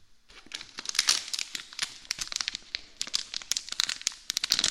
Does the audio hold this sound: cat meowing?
no